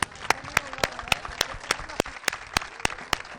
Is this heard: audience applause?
yes